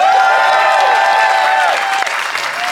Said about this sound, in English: If you think Ian and Ben made the best case, applaud now.